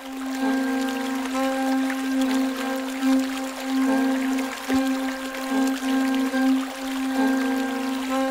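Steady, continuous rushing of river water flowing beneath an arched stone bridge, even throughout, with a constant low tonal hum running beneath it. No voices.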